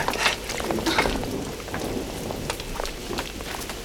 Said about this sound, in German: Der Regen lässt nach.